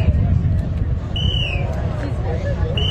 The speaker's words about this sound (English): Those sounds of whistles could be heard directing crews holding the strings in the parking lot of MetLife Stadium.